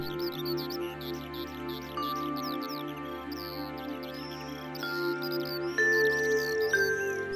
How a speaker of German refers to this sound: Es liegt ein fröhliches Zwitschern in der Luft, das dich animieren mag, ein kleines Lied vor dich hin zu summen.